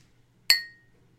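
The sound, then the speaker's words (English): A single bright clink of tall drinking glasses touching, ringing with a few high tones that fade out over about a quarter second amid quiet. “These are taller glasses, so that clink was a little bit better than our usual.”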